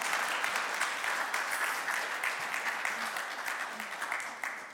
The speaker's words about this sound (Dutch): Want de Heer die heeft ervoor gezorgd deze week dat hij papa geworden is. Geef hem een applaus.